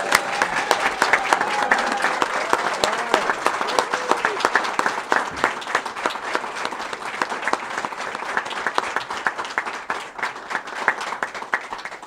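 Sustained applause from a large audience, a dense steady crackle of many hands clapping at an even loudness for about twelve seconds, with faint scattered voices underneath.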